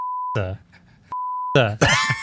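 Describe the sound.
Two steady, pure censor bleeps at a single mid-high pitch, each roughly three-quarters of a second, cutting in between bursts of a man's voice talking and groaning.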